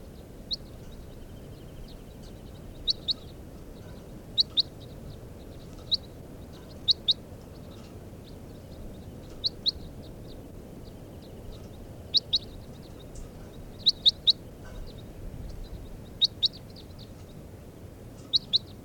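wild bird calls

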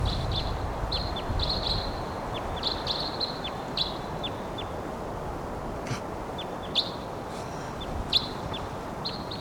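wild bird chirping

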